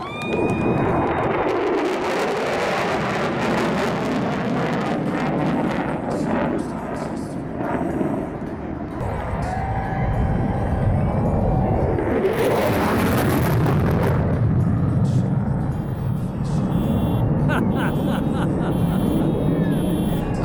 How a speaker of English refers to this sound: Second clip of the B1 passing because it set off all the car alarms in the parking lot. That's my favorite.